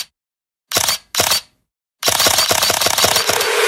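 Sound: camera shutter clicks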